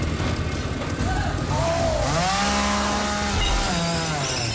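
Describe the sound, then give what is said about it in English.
A chainsaw roars, its engine pitch rising and falling as it revs and saws through a wooden door, with a continuous rough grinding noise throughout. “saws through the door.”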